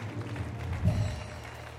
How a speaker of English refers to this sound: Give a hand clap of praise for those two that raised their hands tonight.